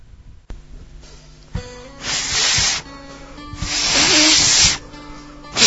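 failed attempt at whistling

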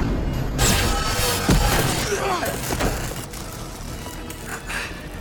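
explosions

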